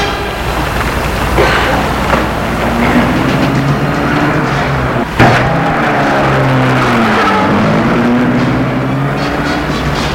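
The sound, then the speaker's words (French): A black Rolls car drives off along a street, its engine steady and loud, its pitch rising and falling as it accelerates, with a sharp thump midway and a brief squeal of tires. No one speaks. “La voiture aussi.”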